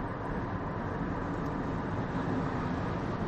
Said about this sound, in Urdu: آج یہ بیان ہم گاڑی میں کر رہے ہیں. گاڑی کا شور آپ کو سنائی دے رہا ہوگا, لیکن بہرحال نہ ہونے سے بہتر ہے.